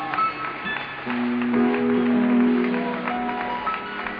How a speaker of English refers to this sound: Let's clap our hands unto the Lord together.